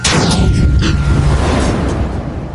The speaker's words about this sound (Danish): Raketten drøner derudad, op ad en høj skrammelbakke og fortsætter lige op i luften. Med buller og brag suser den væk fra jorden og helt ud i verdensrummet.